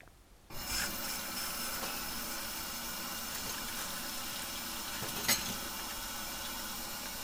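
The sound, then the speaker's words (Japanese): Water runs steadily from a tap after a brief silent start while dishes are washed, an even rushing hiss that continues throughout, with one sharp clink partway through, like a dish being handled. “じゃ、食器を洗ってしまおうかな。”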